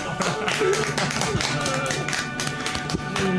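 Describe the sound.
A small group applauds steadily for a few seconds, a dense patter of hand claps, with faint voices mixed in underneath.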